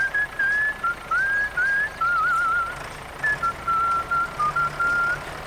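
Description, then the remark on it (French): Someone whistles a cheerful melody, clear, with short phrases and brief pauses between runs of notes, over a faint steady background hum. “ton concessionnaire John Deere, toi aussi tu pourrais siffler en travaillant.”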